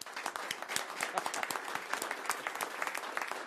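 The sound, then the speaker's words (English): A crowd applauds steadily, dense overlapping claps forming a continuous crackling wash that holds at an even, moderate level for a few seconds with no voices above it, applauding the announcement that the Real-Time Investigation Center is fully operational. “Today, we are announcing the Real-Time Investigation Center is fully operational, so we can applause for that.”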